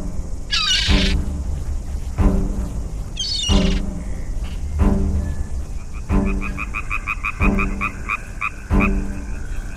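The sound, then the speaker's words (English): A frog croaks loudly, about seven deep, buzzy croaks at a steady rhythm, with faint high-pitched chirping trills carrying on in the background. “Asleep, said the frog.”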